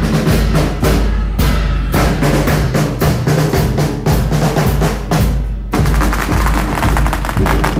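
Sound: string of firecrackers exploding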